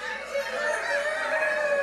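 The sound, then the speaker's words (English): A crowd of children's voices imitates rooster crowing all at once, a sustained, overlapping chorus of loud cock-a-doodle-doo calls lasting a couple of seconds. “All right, there were probably roosters in the stable that night, so let me hear you do your best roosters.”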